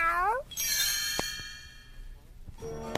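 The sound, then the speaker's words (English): A couple of high, short kitten meows, one at the start and one at the end, with a bright bell-like chime ringing out and fading in between. “Another was to cuddle Christmas kittens.”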